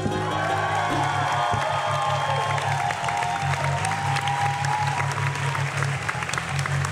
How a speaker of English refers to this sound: Oh, my goodness. Round of applause for Ben Jenkins. He did so well.